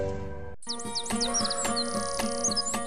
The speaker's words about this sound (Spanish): Érase una vez en algunas comunidades muy lejanas, en unos bosques enormes donde se escuchan pájaros, tigres, coches de monte, tepezcuintle, cabra, venado, mono, águilas, lechuza, la ardilla.